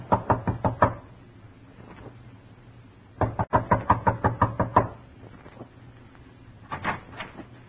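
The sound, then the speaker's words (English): Sharp knocks rap on the door of Joe Poland's home in quick bursts: a run of about six, a pause, then a longer run of about eight, followed later by a few softer taps. Fairly loud, no voices. “Knock.”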